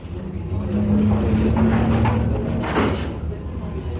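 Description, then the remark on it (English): A door rumbles open or shut amid steady mechanical hum and background noise, with a brief knock near the end; faint muffled voices sit underneath. “There's the door.”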